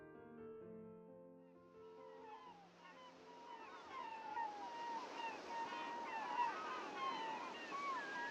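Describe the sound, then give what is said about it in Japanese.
Many seagulls call in the distance over the morning sea by Kamome Island Lighthouse in a seaside town, overlapping cries rising over a steady wash of sea and surf, after a brief low tonal hum fades out at the start. “遠くでカモメの鳴く声と目覚める街の気配、朝の海に誘われるように、私はカモメ島灯台を後にした。”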